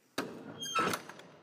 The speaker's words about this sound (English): And both the doors open up simultaneously.